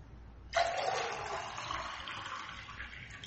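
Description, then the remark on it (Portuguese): Water is poured for drinking in a steady, rushing stream that starts abruptly after a brief pause and continues for a few seconds, fairly loud, with no talking. “Deixa eu pegar água aqui, peraí”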